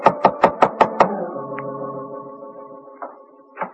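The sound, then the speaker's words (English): Six quick, evenly spaced knocks on the door of a bungalow in a bungalow court on Normandy, sharp, followed by a soft sustained tonal hum that lingers and fades with a couple of faint thumps. “It was a bungalow court on Normandy, and it took her a long time to answer the door.”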